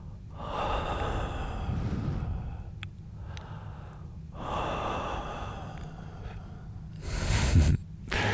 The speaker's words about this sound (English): Okay, so let me show you. So you could start by just breathing gently into his ear, maybe, like this.